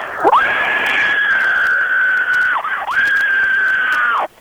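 A woman lets out a loud, shrill, sustained scream that swoops up and holds a high pitch, breaks off briefly, then resumes for a second long, steady shriek before cutting off.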